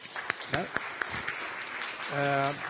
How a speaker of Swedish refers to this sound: till att börja med en applåd.